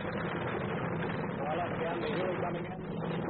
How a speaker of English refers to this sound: We must get a medevac chopper down. But each time one tries to come in, Viet Cong gunners open up and drive it off. Looks like the H-34, the Marine H-34 is coming in. Heavy fire, guys.